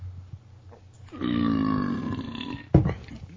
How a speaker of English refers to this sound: Excuse me. Wow, I felt something get brought up with that one. You ever feel like... Dude, that's the worst. You burp so loud, so you feel like some... string of already digested food is just coming back up with it.